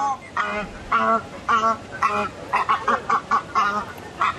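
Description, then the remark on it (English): Harsh, nasal honking calls of an ibis repeat about ten times, evenly spaced at first, then quicker and bunched together. The bird sounds clear, with no talking. “Didn't manage to get a bin chicken on tape this afternoon in time for PM.”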